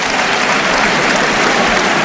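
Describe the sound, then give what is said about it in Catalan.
A large outdoor crowd in a town square applauds loudly and steadily after the Colla Vella castellers load a 4 de 10 amb folre i manilles human tower, a dense wash of clapping hands sustained throughout with no pauses or voices standing out. “Aplaudiments a plaça.”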